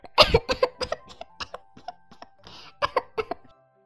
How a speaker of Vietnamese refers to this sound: Nhìn sắc mặt như mây đen u ám của Phượng Hoàng, ta run lên cầm cập, càng ho khan không thể ngừng.